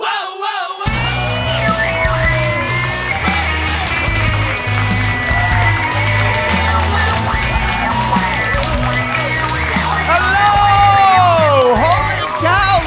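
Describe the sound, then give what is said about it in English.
A large crowd at an evening live show of the storytelling show Risk cheers and applauds loudly and continuously for about thirteen seconds, with high whoops and yells rising above the roar and a low, steady bass line beneath. “What a beautiful audience! Big crowd here tonight.”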